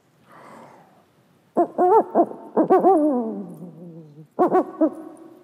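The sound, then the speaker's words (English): An owl hoots in three loud bursts of quick, wavering calls after a soft breathy start; the middle phrase stretches out and slides downward in pitch. No voices. “The owl, kakan, for instance, it has night vision.”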